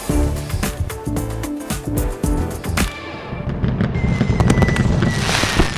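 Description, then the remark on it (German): Fireworks go off in a rapid series of sharp, booming bangs, then give way to a dense, continuous crackling and popping that keeps going to the end. “Sie wissen schon, aus Feuerwerk.”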